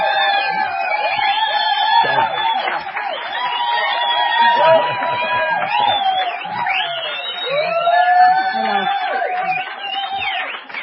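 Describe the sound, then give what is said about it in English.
An audience welcoming two introduced guests cheers loudly and steadily for about eleven seconds, many overlapping voices whooping and shouting in rising and falling tones, with a rough clapping-like wash underneath. “That applause sign is working today.”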